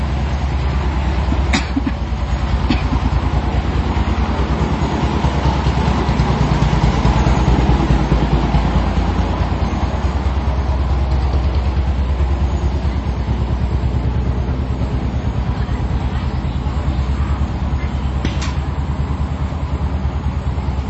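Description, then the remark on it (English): A makeshift vehicle driven by a converted farm water-pump engine chugs loudly and steadily for the whole stretch, a rough, low, rapid putter with a few faint clanks and no voices. “Because they take the farm pumps for pumping water to farm, and now they put it in, put wheels on it and drive things around.”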